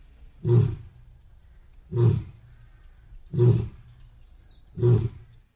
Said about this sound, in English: A lion's roar travels quite a few miles. You can hear a lion miles away.